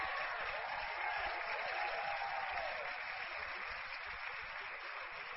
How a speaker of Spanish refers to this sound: Y date un aplauso.